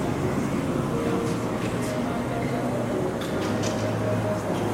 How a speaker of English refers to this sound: Shit, subway.